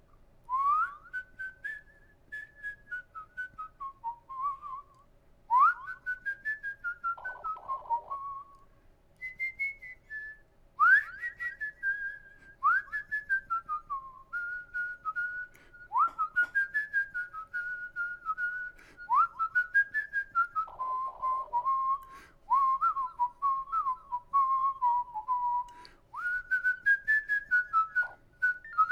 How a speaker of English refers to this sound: I turn up the volume on both phones, here we go. So now, if I whistle or even talk, you can hear an echo, okay? So I was whistling before, listening to some music, and it's really wild, some of the effects it does.